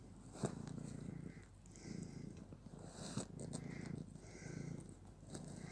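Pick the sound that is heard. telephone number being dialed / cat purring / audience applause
cat purring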